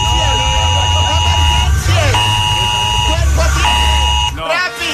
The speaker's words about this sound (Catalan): Escolti, fora aquest soroll, ja en vam tenir prou ahir de l'alarma aquesta de Protecció Civil.